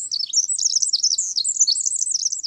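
A songbird sings a rapid, continuous stream of high, bright chirps and warbling trills, close and clear, with no other sounds around it.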